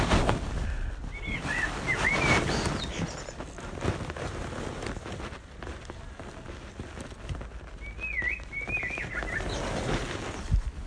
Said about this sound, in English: I do love blackbirds. They're not indigenous to Tasmania. And people talk about them being sort of pests, really, but I really love them.